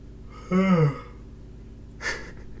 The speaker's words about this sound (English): Is that a full yawn? You're finally full from all that food you ate?